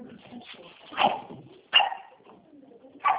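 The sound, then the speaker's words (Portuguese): Dogs bark in three sharp, irregular bursts, each loud against a low murmur of background noise, with short quieter gaps between the barks. “tenho que sair de onde eu estou, porque é uma perturbação para esses cachorros aqui.”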